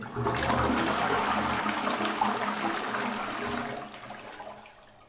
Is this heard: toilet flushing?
yes